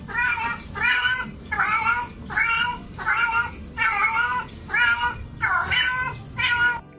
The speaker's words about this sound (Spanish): Te cuenta su vida. Escuchad este caso de un gato que llega al dueño a casa y mirad lo que le dice.